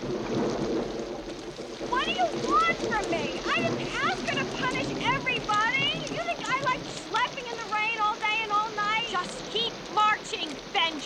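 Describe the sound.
Steady pouring rain hisses throughout while a group of voices, women of an army platoon, calls and chatters over it, with the shuffle of their marching feet buried beneath the downpour.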